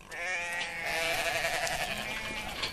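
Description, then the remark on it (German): Several sheep on a farm in Wales bleat loudly and continuously at feeding time, with overlapping, wavering cries, as a 60-year-old farmer climbs over the fence carrying two heavy buckets; no talking. “Die Tiere blöken, denn es ist Fütterungszeit.”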